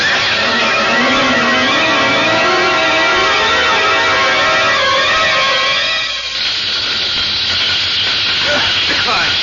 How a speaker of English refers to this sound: Fire! There's fire all over the place. Yes, that must have been a firebomb.